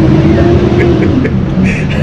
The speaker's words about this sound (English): So right now, there's a school bus passing by again. For some reason, it loves this street. I don't know why, but we're just going to wait for it to pass. Okay, we can continue. Thanks, bus.